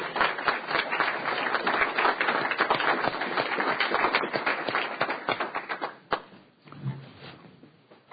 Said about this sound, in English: Let's applaud her.